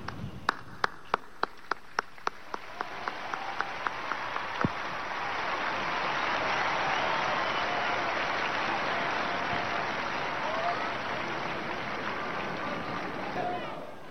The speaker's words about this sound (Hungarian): Ezzel a tapssal ér véget a mai szerda délelőtti általános kihallgatása Ferenc pápának.